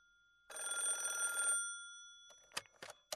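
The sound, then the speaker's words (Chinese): An old-style telephone bell trills in one rapid, buzzing burst of about a second, then falls silent before a few sharp clicks, like a handset being handled. No one speaks. “耶斯敏开始打电话”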